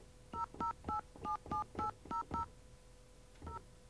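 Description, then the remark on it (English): A rapid string of eight touch-tone beeps dialing a Sprint phone number in an even rhythm, a pause, then one more tone, echoing through a studio with its doors open, with a faint steady hum underneath. No one speaks. “We have the doors open, so I can hear the touch tones echoing throughout the studio.”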